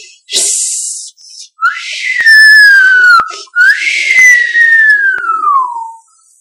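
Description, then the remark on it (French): A voice imitates an angry snake's hiss: a sharp breathy hiss, then two long, shrill, screechy glides that fall in pitch, loud with no talking. “Il sifflait comme ça avec rage.”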